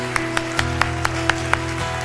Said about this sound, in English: Come on, let's keep clapping for them.